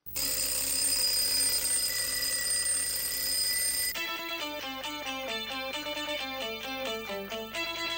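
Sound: alarm clock ringing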